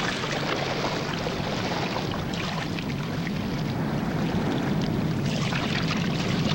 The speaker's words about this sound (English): Maud ducks down below the gunwale as Van Weyden rows.